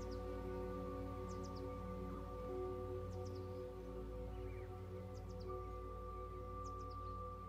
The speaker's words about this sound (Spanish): En las copas de los árboles, los pájaros vuelan de rama en rama y te regalan su canto.